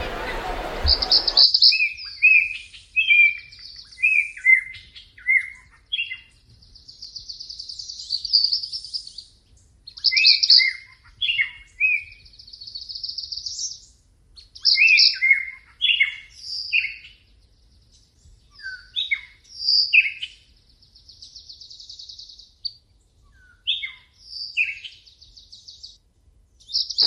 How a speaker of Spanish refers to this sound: Vamos a escuchar la voz del canto de estas aves, que aparecen de manera gráfica en esta publicación,